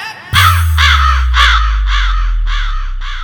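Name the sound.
crow cawing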